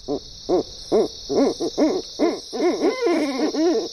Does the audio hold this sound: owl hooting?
yes